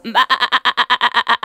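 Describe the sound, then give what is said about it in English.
A sheep gives one loud, drawn-out bleat with a fast quavering tremble, heard on its own. “that's a sheep.”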